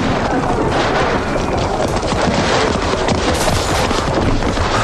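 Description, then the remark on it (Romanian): A dense, continuous din of an approaching battle: crackling bursts of gunfire layered with heavy booming explosions, loud and unbroken throughout, with no voices. “Asta e lupta care se apropie.”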